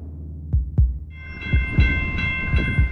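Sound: train passing nearby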